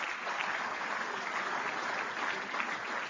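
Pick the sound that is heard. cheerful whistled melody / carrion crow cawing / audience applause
audience applause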